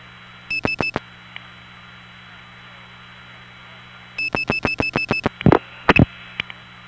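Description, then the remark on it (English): Telephone digits 3 and 7, the office code, being dialed through the Rutland step tandem to reach the Benson office: a short burst of rapid beeping pulses, a pause, then a longer run of pulses, followed by a few louder clicks over a steady line hum. “I'll now dial 3-7.”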